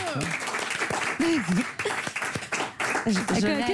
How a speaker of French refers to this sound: Waouh, le Marrakech, il a dû faire, mon passage Marrakech du Rire, il a fait près de 20 millions de vues. Oh, ça s'applaudit quand même, ça.